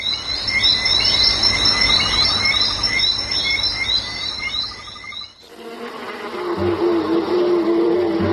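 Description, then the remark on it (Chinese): Dense, rhythmic insect chirping gives way to a steady droning hum of honeybees circling at the hive entrance, unable to fly in yet not flying away, fairly loud with no one talking. “它就绕了在门口飞不进去啊，它也不飞走。”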